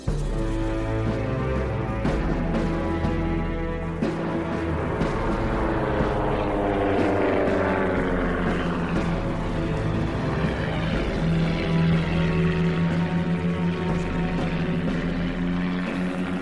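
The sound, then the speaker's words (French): The propeller engine of a brand-new Latécoère seaplane roars steadily and loudly over the river at Saint-Louis, Senegal, on 11 May 1930, its droning, buzzing tone shifting slightly in pitch as it holds a constant, powerful level throughout, with no voices. “Le grondement d'un avion met ces centaines de gens au comble de la joie.”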